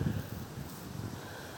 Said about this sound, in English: It's windy today. You perhaps can hear that.